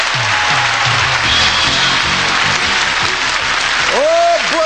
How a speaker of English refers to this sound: once again, Rod Roddy has whipped this audience into a frenzy. Is that right, Rod? A veritable frenzy. Veritable frenzy. They're cheering. See, they're great. Great audience.